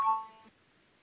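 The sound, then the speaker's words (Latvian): A parliamentary voting bell sounds once before a vote on a proposal, a bright ringing chime that fades within half a second, leaving faint room tone. No one speaks. “Lūdzu, zvanu, balsosim par 28. deputāta Lobzema priekšlikumu.”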